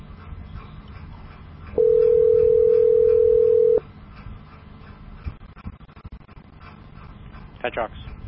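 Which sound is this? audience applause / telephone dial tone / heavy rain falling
telephone dial tone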